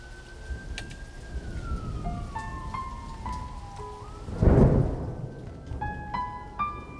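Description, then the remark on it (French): Steady heavy monsoon rain hisses throughout, and a deep roll of thunder swells in the middle before fading. Faint tonal whistles or horns drift over the downpour. “Les orages s'éclaircissent et c'est la fin de la mousson.”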